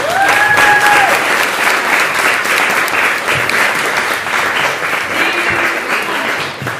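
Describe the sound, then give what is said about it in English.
Sustained audience applause for the panelists at a panel discussion, a dense, steady wash of many hands clapping at a loud, even level throughout, with a few brief whistles rising above it near the start. “So a huge round of applause.”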